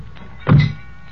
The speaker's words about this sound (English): Okay, heave it in. Slam the doors.